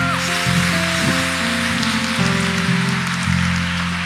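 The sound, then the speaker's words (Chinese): An audience claps loudly and steadily for the full few seconds to thank God after a prayer, a dense, even wash of applause over sustained keyboard chords that shift pitch a few times. “好，我们再次拍手来感谢神”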